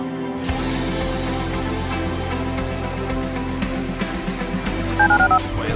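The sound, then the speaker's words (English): A steady music bed plays in a radio station promo for a listener call-in line, then near the end a quick run of about four telephone keypad dialing tones beeps out, short bright dual-pitched tones stepping in sequence over the music. “Dial the phone.”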